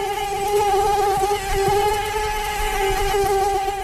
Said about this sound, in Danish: Det er nemlig lyden af myg, og selvom de er rigtig trælse, så forbliver de altså lige nu kun ved det trælse.